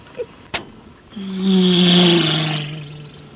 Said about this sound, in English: Whoa, this isn't anything like Sesame Street. Look at all the cars and all the trucks. They go by so fast.